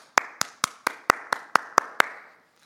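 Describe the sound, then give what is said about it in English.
Eight sharp hand claps in a steady, fairly quick rhythm, crisp, each with a short ring of reverberation, then silence: hand clapping at a door in Paraguay, the local way to knock and get the attention of people at home. “This is how you knock on the door in Paraguay.”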